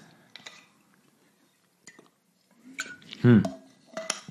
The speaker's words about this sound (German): Als erstes nehmen wir jetzt mal einen Schluck Wasser.